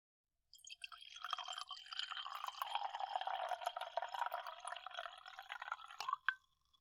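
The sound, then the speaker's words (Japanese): Wine pouring steadily into a glass for several seconds, a bright gurgling stream that fills and then stops with a final trickle. No voices. “それよりも、あなたもワインはいかが？ん？どうぞ。”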